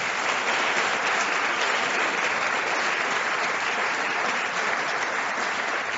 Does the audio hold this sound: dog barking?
no